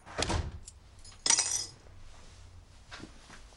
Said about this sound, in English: He puts his keys down on the dresser